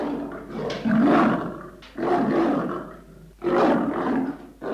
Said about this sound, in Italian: L'orco si trasformò davvero in un enorme leone.